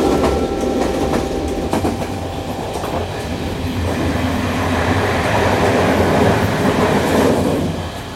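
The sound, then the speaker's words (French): A train carriage rumbles steadily along the rails, with a deep continuous roar, faint rhythmic clatter and thin metallic tones, holding loud throughout with no voices. “Bienvenue à bord et profitez de notre wagon-bar.”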